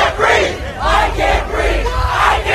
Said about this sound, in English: His final words, "I can't breathe." They were the same words chanted by protesters.